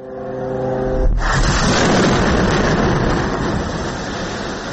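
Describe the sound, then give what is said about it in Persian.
A high engine whine of Israeli fighter jets gives way to a sudden loud blast about a second in, followed by a sustained heavy roaring rumble of several explosions, in the Gaza Strip at night. No one speaks. “غرش جت‌های جنگی اسرائیل و سپس صدای چندین انفجار.”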